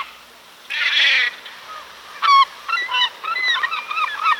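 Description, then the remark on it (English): A harsh, breathy squawk is followed by a run of sharp, mewing seagull calls, several in quick succession, loud, with no talking. “You guessed it, I'm talking about seagulls.”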